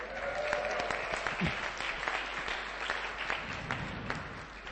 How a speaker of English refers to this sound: Let's give these guys an extra special clap because they've served us awesomely. Thanks, guys. Without you guys, we wouldn't have been able to sing nicely.